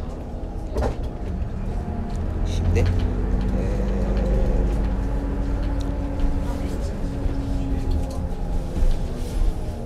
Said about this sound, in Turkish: an itibariyle otobüsümüz hala hareket ediyor.